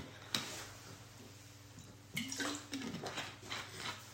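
Someone takes a quiet sip of water, with soft slurping and a small gulp over a steady low hum, a few brief wet clicks scattered through the pause.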